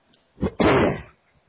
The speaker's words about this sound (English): As I clear my throat, one of the disadvantages of not having anybody around is when you wake up, you don't talk. And then when you do, it doesn't work.